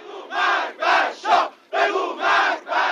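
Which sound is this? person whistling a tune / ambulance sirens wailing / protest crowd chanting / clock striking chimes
protest crowd chanting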